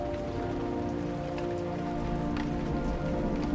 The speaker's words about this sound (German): Horch nur. In der Ferne rollt ein garstiges Unwetter an.